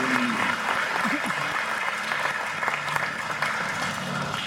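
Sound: audience applause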